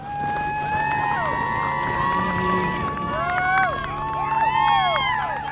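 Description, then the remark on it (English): A crowd, including many kids, cheers and whoops steadily outdoors in thigh-deep snow at a makeshift tiki bar, with signs and bullhorns, many overlapping voices rising and falling in pitch, with a low hum running underneath throughout. “there's people cheering, there's a makeshift tiki bar, there's signs, there's bullhorns.”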